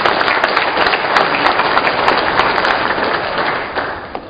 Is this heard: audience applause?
yes